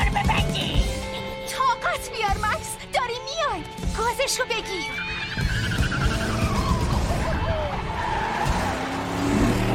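A clown car's tires skid and squeal in a rapid series of sharp, wavering screeches, loud, over a steady rumbling engine that keeps droning after the squeals fade.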